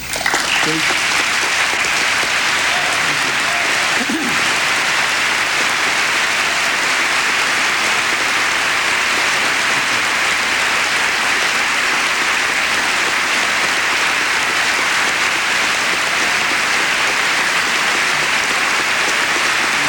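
Sustained applause from a large audience, a dense, steady roar of clapping hands that fills the whole stretch at a constant loud level without letting up.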